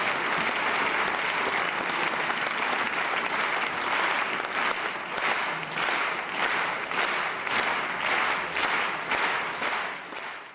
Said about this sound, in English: To help me explain, let's listen to a recording of an audience applauding. It starts as normal, but then something starts to happen. One person starts clapping slightly louder and at a slower pace, and immediately the rest start to follow.